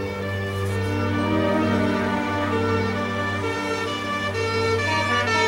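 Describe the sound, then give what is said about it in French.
A fire engine siren sounds steadily and loudly throughout, a continuous tonal wail with a low rumbling vehicle engine beneath it and no voices, amid a constant stream of fire engines as rescuers work after a flood in Fréjus. “Valse incessante de camions de pompiers, les secouristes s'affairent depuis le début de la nuit pour tenter de sauver les survivants.”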